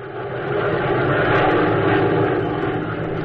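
A steady, droning engine of a P-61 aircraft, fitted with special electronic equipment and following the trail of Nazi Death's Head Squadron planes, hums continuously, swelling slightly in the first half second and then holding a loud, even roar with no voices over it.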